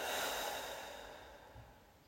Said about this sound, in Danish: Vi trækker vejret dybt ned i lungerne og helt ned i mellemgulvet. Vi starter nu. Og puster ud.